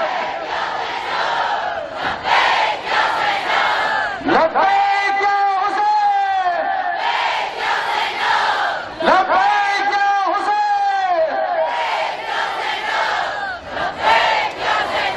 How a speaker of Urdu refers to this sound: میں لبیک یا حسین سے شروع کروں گا. آپ سب جو میرے خواتین سامنے بیٹھی ہوئی ہیں وہ لبیک یا زینب بولیں گی, اور اس کے بعد میرے برادران اس لبیک یا حسین کے ساتھ بولیں گے لبیک یا حسین.